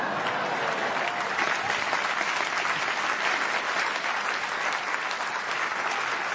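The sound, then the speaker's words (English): An audience claps steadily during a jive dance demonstration, a dense wash of many hands that stays loud and even for several seconds with no break or voices standing out. “Oh, they're going to clap.”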